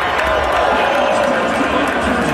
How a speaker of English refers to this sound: And then you hear the crowd go, oh.